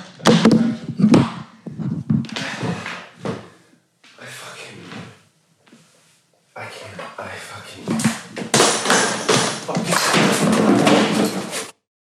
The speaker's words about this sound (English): dropping the mic and aggressively walking toward the camera, intentionally knocking various equipment to the ground on his way.